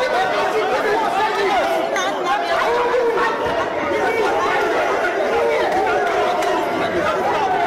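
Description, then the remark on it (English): A rowdy crowd of many voices surrounds a man, yelling at him and calling out "ole, ole, ole" over one another without a break, a dense, loud wall of overlapping shouting that stays steady the whole time. “Quite the rowdy crowd there. Lots of people surrounding the gentleman, calling him ole, ole, ole, and, you know, just essentially yelling at him.”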